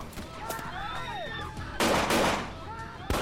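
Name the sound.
gunfire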